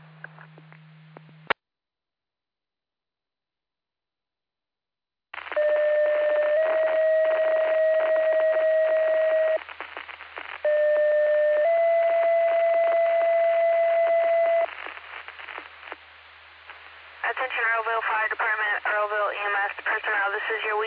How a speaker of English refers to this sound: This is your auto aid pager test. Testing for Mendota and Troy Grove Fire Department. Please disregard the tones and reset your pagers. End of test.